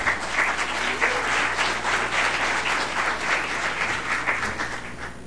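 An audience applauds steadily as a man who recently launched a book is called up, a dense wash of many hands clapping at once that stays fairly loud and even throughout, with no voices rising above it.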